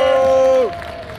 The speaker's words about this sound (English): Everybody give a round of applause for the top eight.